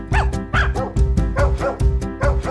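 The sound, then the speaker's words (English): Several puppies bark and yip in quick, overlapping bursts, about five or six sharp high-pitched yelps in a row, loud over a steady background tone. “Like, you take calming music mixed out with a litter of puppies, and you can just inject that into my veins right now.”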